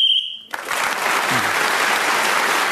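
A single shrill whistle blast, about half a second long, blown to end a round while Josie Lawrence was speaking, cuts off and gives way immediately to loud, sustained applause from a large crowd.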